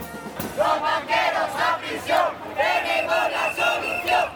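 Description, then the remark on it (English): Thousands of protesters, including social workers, teachers and public employees carrying balloons, signs and banners, chant while marching to Plaza de Colón in Madrid, Spain: rhythmic bursts of shouted syllables, loud and repeated in a steady cadence, voices merging into a massed roar between each phrase. “Carrying balloons, signs, and banners, thousands marched to Madrid's Plaza de Colón, including social workers, teachers, and public employees of all kinds.”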